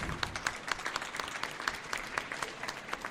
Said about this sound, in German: Applaus.